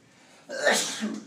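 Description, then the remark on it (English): A single sneeze bursts out after a quiet moment, a sharp breathy blast that trails off quickly. “Bless you.”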